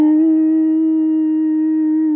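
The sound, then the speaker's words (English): A voice imitates the blast of a conch shell blown from the back seat of a car at night: one long, loud, steady hooting tone held for about two seconds, with a slight rise at the start and a dip as it ends. “He had a conch shell, and he'd blow that conch shell and go, woo!”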